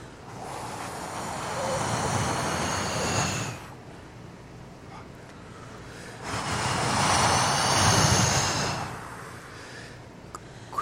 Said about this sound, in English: What's the limit of the distance of that breath, of that voiceless sound?